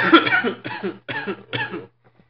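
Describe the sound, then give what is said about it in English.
A person coughs four times in a row, each cough harsh, with brief pauses between them before the fit trails off into quiet. “Yeah, cough your ass off.”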